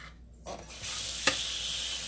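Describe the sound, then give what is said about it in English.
Dishwashing in a kitchen sink: a brief scrape, then a steady hiss of running water with one sharp clink of a dish partway through, moderately loud, no voices. “I'm trying to see if I can just, like, wash dishes while I podcast. So I'm just going to make a few different noises.”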